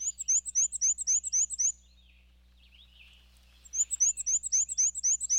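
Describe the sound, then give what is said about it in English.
A male black-and-white warbler sings a high, squeaky, rapidly repeated two-note phrase, two clear bursts of about seven notes each separated by a short pause, with a faint low hum underneath. “But they breed in North America's deciduous forests, where males sing a repetitive, high-pitched, wheezy, wheezy, wheezy song, a little bit like a squeaky shopping cart.”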